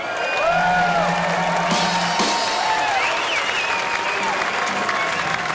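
A crowd claps loudly and steadily throughout, with scattered whoops and cheers rising over the dense wash of applause, welcoming a blues performer from Baton Rouge, Louisiana.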